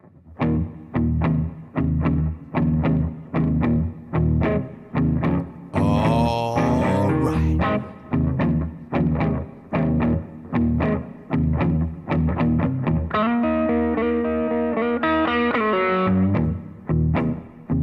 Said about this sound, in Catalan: Guitarres saturades, dominant-ho tot, ritme pesat i l'olor a la humanitat de les ribes del riu sortint pels altaveus.